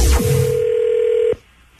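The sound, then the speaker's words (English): A brief noisy click is followed by a steady electronic telephone tone that holds for about a second, then cuts off abruptly, leaving quiet. No one speaks. “Don't ever answer your phone. It could be the Senseless Bureau calling.”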